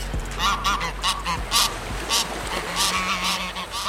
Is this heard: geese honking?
yes